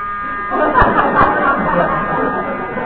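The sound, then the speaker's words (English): A dentist's drill buzzes with a steady, high-pitched whine that starts after a brief pause and holds for a couple of seconds, with faint murmuring voices underneath. “That's the dentist again.”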